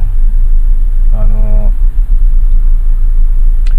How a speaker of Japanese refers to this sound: いや、車が多いな。